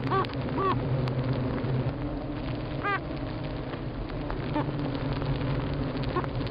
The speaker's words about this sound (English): This week I learned the mystery behind this funny sound that bees make.